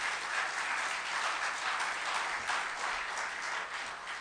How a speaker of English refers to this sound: I'm always moved to tears when I hear your pastor minister. He's a terrific teacher of the Word of God. Yes, give him a good clap.